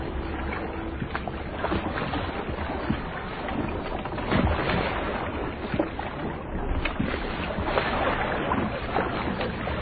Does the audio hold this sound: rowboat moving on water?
yes